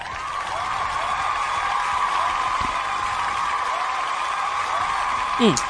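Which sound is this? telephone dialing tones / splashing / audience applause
audience applause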